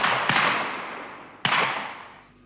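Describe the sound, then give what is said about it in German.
Two sharp, gunshot-like bangs ring out from different spots in a wall about a second apart, each loud and sudden with a long reverberant tail. No one speaks. “Schüsse knallten aus verschiedenen Stellen der Wand.”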